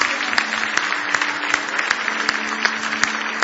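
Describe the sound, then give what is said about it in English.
A church audience claps in praise of God in a dense, sustained wave of many hands, with sharper individual claps popping out of the steady roar throughout. “Give Him a big hand clap of praise if you love Him.”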